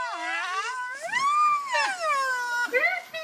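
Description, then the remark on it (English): Male Sumatran rhino whistle-blow calls: several high, harmonic squeaks that glide up and down in pitch, each followed by a short breathy burst of air out through the nostrils, repeated over a few seconds. “The males do a kind of a whistle blow. They do this high-pitched squeak and then a burst of air out through the nostrils.”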